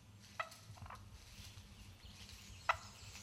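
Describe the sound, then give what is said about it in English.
A turkey purrs with a soft, low rolling rumble throughout, broken by two short, sharp yips spaced a couple of seconds apart. Quiet, with no talking. “What is a turkey?”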